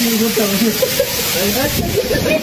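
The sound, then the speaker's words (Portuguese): Hail pours down at night in Lago da Pedra in a dense, steady hiss of countless small impacts, loud throughout, while a person talks over the clatter. “Em Lago da Pedra, moradores foram surpreendidos na noite dessa quarta-feira por uma chuva de granizo.”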